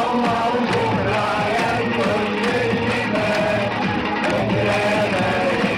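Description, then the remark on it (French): A huge crowd of Egyptians sings together outdoors in Tahrir Square, Cairo, on the night of 11 February 2011, recorded on a mobile phone: a loud, dense roar of voices, the melody carried by thousands and blurred by cheering. The sound is continuous, with a harsh, overloaded edge. “le peuple égyptien entonne El Waya Baladi”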